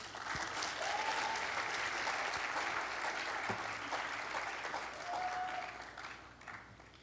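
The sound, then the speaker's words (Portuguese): Sustained applause from an audience welcoming a singer about to perform, a dense, steady crackle of many hands clapping that tapers slightly toward the end, with a faint whistle partway through. “Por favor, uma salva de palmas.”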